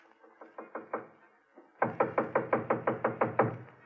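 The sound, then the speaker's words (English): Knocking on a wooden living room door at Holmes's lodgings: a soft series of about six raps, a brief pause, then a louder, faster run of roughly ten firm, evenly spaced knocks, with no voices. “It gave me a strange feeling as I raised my hand to knock on what once had been my own living room door.”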